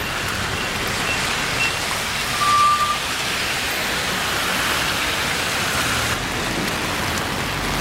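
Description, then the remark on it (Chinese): Steady, dense rain hisses over a busy street crowded with cars near a primary school and a zebra crossing, where traffic jams whenever it rains, with a low traffic rumble underneath and a brief high beep partway through; no one speaks. “哦，太多车了，这边一般每次下雨的话都会堵车。”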